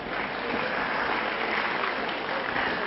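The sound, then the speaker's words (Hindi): A crowd applauds steadily for about three seconds, a dense, even wash of many hands clapping at once with no voices rising above it. “अच्छा ताली क्यों बजाई?”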